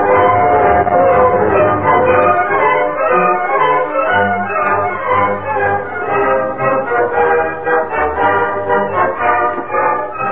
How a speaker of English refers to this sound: They waited near the switch that had to be thrown to turn the train from the Furnace Canyon spur to the main line. Here comes the train, Mandan. Just about on schedule.